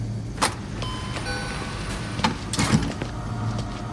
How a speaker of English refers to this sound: I slip into a convenience store and buy a piping hot black coffee. As I stand near the machine, sipping it, breathing the bitterness in deep, I hear the door open and someone come in.